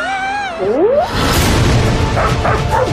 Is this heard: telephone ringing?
no